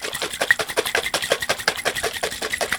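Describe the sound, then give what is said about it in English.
A lidded jar of pigment and just enough water to cover it is shaken vigorously, producing a fast, steady run of sloshing, rattling bursts, about six per second, with no talking. “And now the next step is to put the lid back on, and I'm going to shake this up really vigorously.”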